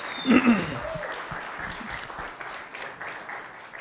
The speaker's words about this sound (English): Can we really just thank these guys one more time with a big round of applause?